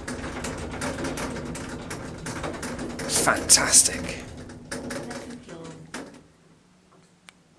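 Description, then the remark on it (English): The lift doors at the Holiday Inn Express in Salford slide open with a steady mechanical rumble and a loud, bright clattering burst midway, then the noise fades to a low hum. A voice speaks briefly. “Doors opening.”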